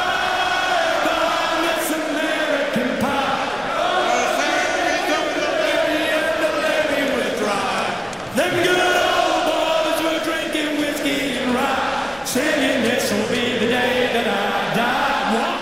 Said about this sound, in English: And then got the crowd involved in a little sing-along.